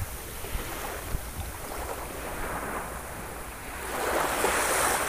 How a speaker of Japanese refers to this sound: 波のリズムと一緒に呼吸をしてもいいでしょう。